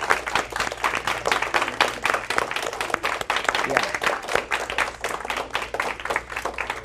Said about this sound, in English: I'd like the youth leaders to stand up, if you would, for just a second. And these are really special people to me. Oh, yeah, let's clap.